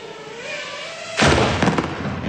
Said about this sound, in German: Was wir jetzt hören, ist eine kleine Drohne, die explodiert. Das nur als kleine Warnung vorab.